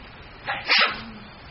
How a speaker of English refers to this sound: Bless you.